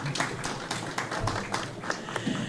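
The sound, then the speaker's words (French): An audience at a book fair round table in Blanzy, France, applauds a 30-year-old woman: a steady wash of many hands clapping at once with a few sharper claps standing out, continuing for a couple of seconds. “Elle a 30 ans et je vous prie de l'applaudir.”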